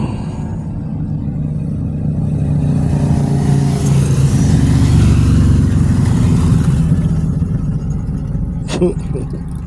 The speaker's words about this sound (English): Motorcycles.